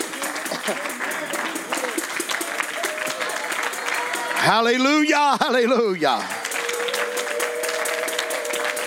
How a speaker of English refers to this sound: One more time, can we give him a hand clap of praise?